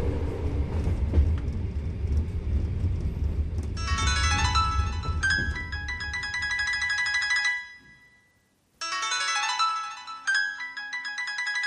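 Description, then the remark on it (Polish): A train carriage compartment rattles along the tracks with a loud, steady low rumble, then a bright electronic phone ringtone melody rises over it, stops briefly and rings again. No one speaks. “Jak dobrze, że nikt nowy nie wszedł do przedziału. Boż, jeszcze 4 godziny tego tłuczenia się.”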